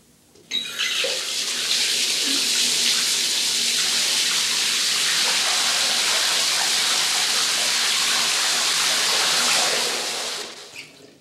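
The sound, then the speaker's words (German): A steady, full rush of cooler water pours from a tap into a bathtub, starting abruptly and running continuously for about ten seconds before tapering off. No voices. “Ich lasse etwas kühleres Wasser ein.”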